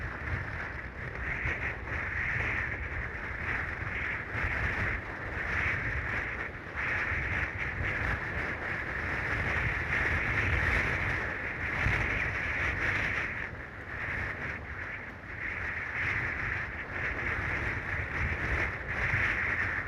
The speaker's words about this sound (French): Là, vous avez eu du grand vent, voire une tempête, et ça, c'est presque un privilège, parce que c'est pas tout le temps, quand même. Là, on l'a eu pendant 5 semaines, il y a un ras-le-bol, et c'est quand même pas tout le temps.